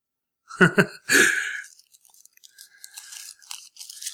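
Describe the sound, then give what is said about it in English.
Crumpled paper is unfolded with two quick crackles and then a longer crinkly rustle, fading into faint scattered ticks and crackles as the sheet is smoothed out. No one speaks. “Unwrinkling a wrinkled up piece of paper”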